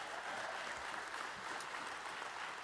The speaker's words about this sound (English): That clap was weak. You could give him a round of applause.